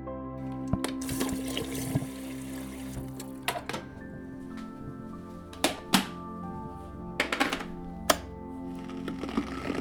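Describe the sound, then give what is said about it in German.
Hot water is poured steadily over almonds at the start of making a dough, a continuous splashing with a handful of sharp knocks and clicks scattered throughout; no one speaks. “Alles beginnt mit ein paar Mandeln und etwas heißem Wasser.”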